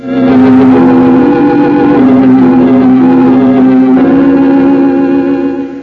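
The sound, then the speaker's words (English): A rented car's engine hums loudly and steadily as the vehicle pulls away, its low drone shifting slightly in pitch while it drives off, with no voices. “Next afternoon, I rented a car. Mark and I then drove out to the Baradian mansion.”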